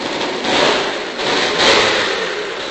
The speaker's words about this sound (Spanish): Si no es un tren, es una moto.